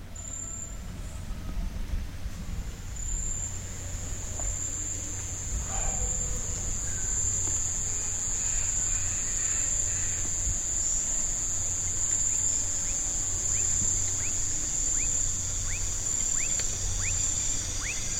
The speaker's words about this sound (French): La forêt commença à s'emplir des sons du crépuscule. Les chants des cigales, des cacambras, des hiboux et d'autres oiseaux nocturnes s'engouffrèrent dans la faille du silence.